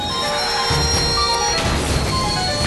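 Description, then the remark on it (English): A loud, sustained crash of a truck loaded with a compound from a lab: dense roaring noise with metallic ringing and low rumbling thuds, continuing for a few seconds with no voices. “The truck crashes and sprays Alex, which causes her to glow orange and gives her special powers.”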